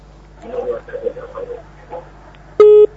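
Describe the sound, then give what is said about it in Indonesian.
A muffled caller's voice over a telephone line during an Islamic call-in program, then the line cuts off with one short, loud, steady electronic tone near the end. “Terputus.”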